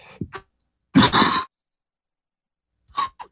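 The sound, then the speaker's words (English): A single loud, explosive sneeze bursts out after a brief sharp intake of breath, followed by a couple of short, softer breathy sounds. No talking. “Excuse me. Bless you.”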